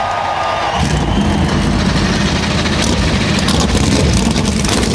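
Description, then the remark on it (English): Seven NASCAR Cup Series stock car engines fire up about a second in at Darlington Raceway before the 75th annual Cookout Southern 500. They quickly swell into a loud, continuous, rumbling roar that holds steady to the end, with faint crowd noise underneath. “Seven NASCAR Cup Series engines come to life.”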